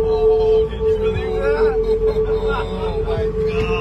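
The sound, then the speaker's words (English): The Golden Gate Bridge in San Francisco hums in the wind in 2020: a steady, unbroken mid-pitched drone with faint higher overtones, held over a low rumble and an indistinct murmur of background voices. “But in 2020, you could also hear the bridge. Not the traffic on it or the seagulls above, but the actual bridge itself.”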